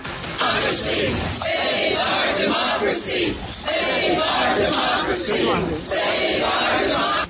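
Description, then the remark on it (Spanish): A large crowd of thousands of protesters in New York, demonstrating after the firing of Jeff Sessions, shouts and chants "save our democracy" together in a dense, continuous roar, with loud rhythmic surges of massed voices throughout and no single speaker standing out. “salieron miles en todas las ciudades de Estados Unidos a manifestar”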